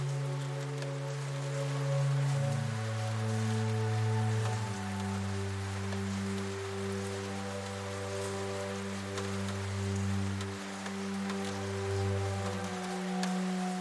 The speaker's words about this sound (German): In diesem Moment wird dir klar, dass der Regen und die Stille dieses Ortes zusammen eine Art Symphonie sind. Eine, die nur für dich zu spielen scheint, um dir zu helfen, den Frieden zu finden, den du suchst.